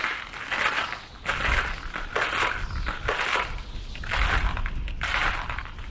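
Steady footsteps of a troop marching through snow in howling winds crunch, each step a loud, gritty crush repeating at an even walking pace, about one per second, with no voices.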